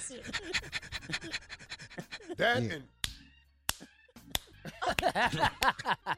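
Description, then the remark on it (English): A female dog pants in quick, rhythmic breaths, broken by a brief whiny vocal sound and a couple of sharp smacking clicks before the panting resumes. “It's a dog, but like I said, what is she doing?”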